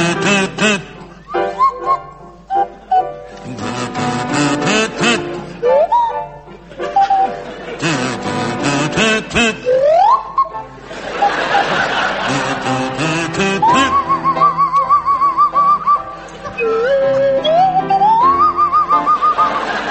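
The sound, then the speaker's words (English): A buzzy kazoo played by Barry Cryer carries the lilting waltz tune of The Blue Danube while a Swanee whistle played by Graham Garden slides up and down in swooping glides, both played loud in a comic, wobbly duet. “Your song is The Blue Danube, and it's to feature Barry Cryer on the kazoo and Graham Garden on the Swanee whistle.”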